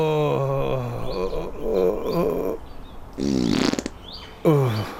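A string of loud, drawn-out farts from someone who drank a litre of whipped cream with no alcohol: a long low buzzing blast, then sputtering, wobbling bursts with shifting pitch, ending in a short sharp rip. No one speaks.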